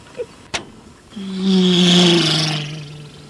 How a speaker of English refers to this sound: Whoa, this isn't anything like Sesame Street. Look at all the cars and all the trucks. They go by so fast.